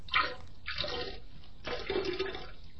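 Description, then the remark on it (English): Champagne pours and splashes into a puddle of standing liquid on a child seat in a car in three gushing bursts, each a second or less, fairly quiet, with no voices. “And the reason it's water hitting water is because there's so much of it.”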